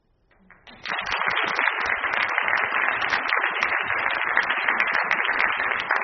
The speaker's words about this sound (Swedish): Vi fixar ju med applåderna. Det kan ju kännas lite futtigt.